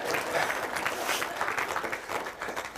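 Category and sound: crowd, audience applause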